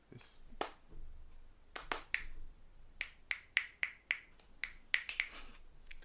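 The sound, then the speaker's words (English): Two people, one clapping and one clicking fingers, make a quick run of about fifteen sharp finger clicks mixed with hand claps in a steady, fairly fast rhythm, each crisp and bright with a short ring, no talking over them. “How about one person claps, one person clicks?”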